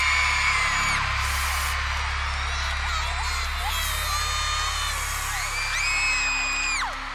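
A large, young concert crowd screams and cheers continuously as the star steps out onto the big stage, with many high-pitched shrieks and whoops rising and falling over a dense, roaring wall of voices and a low rumble underneath.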